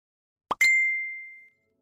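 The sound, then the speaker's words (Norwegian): A short two-part phone message notification chime at the airport in Manila: a soft low plop followed by a bright, clear ding that rings out and fades over about a second, heard alone in silence. “Det tikker inn en ny melding fra ham I det vi står på flyplassen I Manila.”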